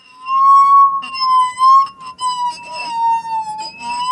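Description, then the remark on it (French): A rubbed glass being dipped into water sings a pure, sustained ringing tone that slowly drifts in pitch, dipping lower as it is lowered and rising again as it is raised, like a musical saw, with faint clinks and background noise underneath. “Donc, en fait, je l'ai plongé, je vois que plus je le plonge, plus la note devient grave. Et ensuite, quand je le remonte, la note redevient aiguë.”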